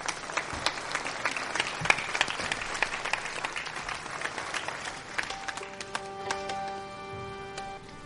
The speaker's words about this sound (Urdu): ذرا تالیاں بجائیں.